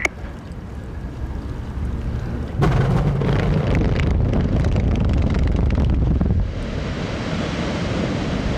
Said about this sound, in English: A quarter mile from where we're standing, more than 100 underground explosions erupt along the shore of the quarry. Because Florida's water table is so high, the mine is actually a 60-foot deep lake.